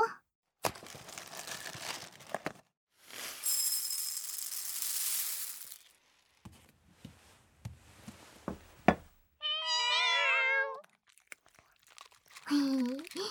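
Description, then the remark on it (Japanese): A hungry cat begging for food gives a clear, drawn-out meow, following bursts of crinkling and rustling like a food bag being handled as its meal is prepared, with a shorter cat cry near the end. “猫ちゃんってよくゴロゴロしながら餌をねだってくるんですよ。”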